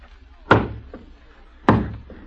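Two heavy, resonant knocks on a door, spaced about a second apart, each trailed by a softer second tap, loud with no voices.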